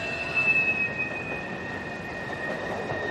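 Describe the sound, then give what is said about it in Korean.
An approaching train rumbles loudly and steadily behind a man, with sustained high metallic squealing from its wheels running throughout, close and continuous with no voices. “남자의 뒤로 가까이 다가오는 열차와 열차의 굉음이 하라를 뒤흔들었다.”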